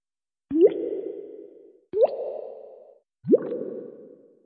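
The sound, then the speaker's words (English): Three separate watery bloops of water bubbles rising, each a quick upward-pitched plop followed by a fading gurgle, evenly spaced, with no voices. “This is what the bubbles sound like.”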